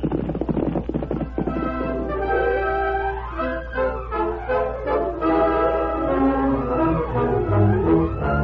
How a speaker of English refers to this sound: A few moments later, Nevada led a horse from the stable, swung to its back, and raced out of town.